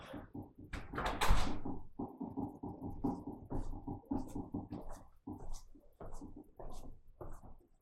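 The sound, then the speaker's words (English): A door is pushed shut with a single solid thud near the start, followed by quieter rustling and shuffling movement noises. “Close the door.”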